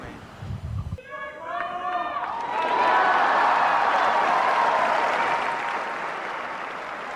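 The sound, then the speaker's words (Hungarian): A large crowd breaks into sustained applause and cheering to thank Pope Francis for his blessing, swelling into a loud, steady roar of clapping and voices that holds for several seconds, following a brief stretch of a sung or chanted Latin blessing. “A mai napon is tapssal és örömújongással köszönjük meg Ferenc pápának az áldását, a tanítását.”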